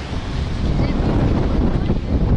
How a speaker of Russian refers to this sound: Единственное, что несет немножко песком. Вот так. А. И глаза слезятся. Ветрено. Очень ветрено.